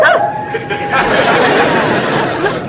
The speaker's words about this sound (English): What is the matter with that dog?